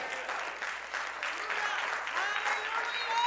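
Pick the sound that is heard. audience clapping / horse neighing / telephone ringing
audience clapping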